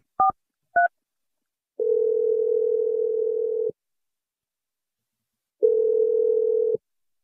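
Two quick touch-tone beeps from a phone keypad, then a steady ringing tone sounds twice, each ring lasting a couple of seconds with a pause between. It is clear and fairly loud, with no voices.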